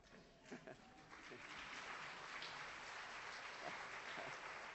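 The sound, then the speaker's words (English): Hands clap in a dense, continuous patter that swells after the first second and holds steady, with faint voices murmuring at the start. “I think that's a hand clap.”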